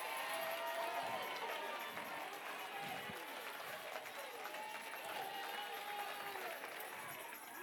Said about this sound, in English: Get the clapping.